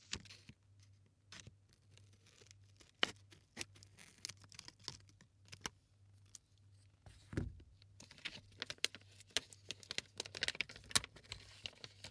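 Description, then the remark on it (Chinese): Crackly plastic crinkling and tearing as a Crayon Shin-chan jelly snack package is worked open without scissors, in irregular bursts of small snaps over a low steady hum, with no talking. “为什么不用剪子呢？我好像个笨蛋，吐了呀。”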